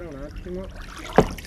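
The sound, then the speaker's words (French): A small boat is sculled by someone standing and pushing a large oar along the calm water of the Santa Marta canal in Venice, in front of a church, during a mini-concert aboard; one sharp splash of the stroke stands out, and voices murmur faintly in the background. “debout sur le bateau en poussant une grande rame, on dit godiller en français”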